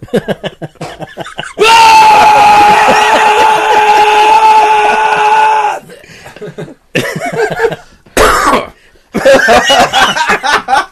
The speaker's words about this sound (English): That's to just cough that out. He's really dying. It's rough.